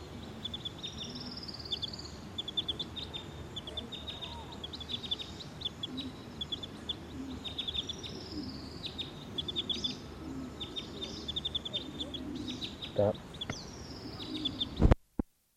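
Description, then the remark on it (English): A field recording of bird number 302: repeated high, thin bird chirps and short trills ring out steadily throughout over a constant low rumble, with some longer whistled phrases, ending with a sharp click. “Recording bird 302.”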